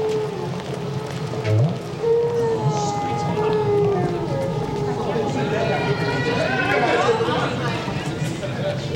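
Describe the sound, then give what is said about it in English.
A male whale's song: long, eerie moans and sliding tonal calls, rising and falling in pitch, continuous and fairly loud over a steady underwater hiss, with no talking. “Recorded whale song. It is sung by the male.”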